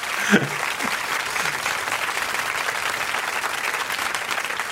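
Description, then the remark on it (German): Steady applause from a crowd, a dense, even patter of clapping that holds at a constant level for several seconds, with a brief louder burst near the start. “Hier ist Applaus.”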